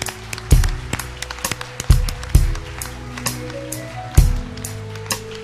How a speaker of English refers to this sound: Remain standing on your feet this morning. Standing on your feet this morning. Come one more time. Give all these women a hand clap. Don't you appreciate them, guys?